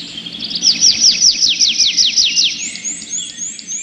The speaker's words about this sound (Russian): Согласился скворец, и в ту же минуту лес наполнился трелью дрозда.